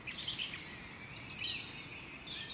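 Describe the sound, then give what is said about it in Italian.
A dense chorus of many birds singing at once in the early morning, between 6:19 and 6:42, overlapping chirps and warbling trills in a steady, continuous wash that masks faint weekday traffic, with no voices present. “E mi sembra bello pensare che qui e ora il traffico sia un traffico di canto d'uccelli che posa su tutto un velo di calma.”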